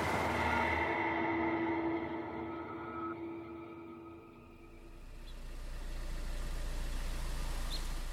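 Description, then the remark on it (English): A car engine idles steadily outside a house in the Pacific Palisades neighborhood of Los Angeles on October 10th, 1978, a continuous low rumble with a humming drone that never changes rhythm, swelling slightly toward the end with no voices present. “On October 10th, 1978, a few weeks after Phil Ritter was attacked in his driveway, a car idled outside of a house in the Pacific Palisades neighborhood of Los Angeles.”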